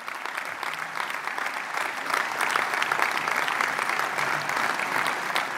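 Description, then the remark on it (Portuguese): A large crowd gives a standing ovation during a speech by Nuno Melo on the Armed Forces and the Defence Ministry, a dense wash of clapping that holds at a fairly loud level throughout and swells slightly partway through, with no voices breaking through. “Mais um aplauso de pé nesta fase em que continua a discursar Nuno Melo sobre as Forças Armadas, sobre a pasta do Ministério da Defesa.”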